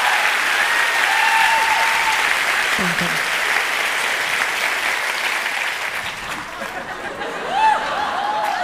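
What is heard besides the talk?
small round of applause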